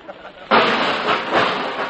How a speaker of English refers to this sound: Sorry, madam, but it's that cake you baked. I just dropped it on the kitchen floor, madam.